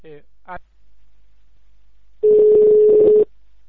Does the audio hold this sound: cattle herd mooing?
no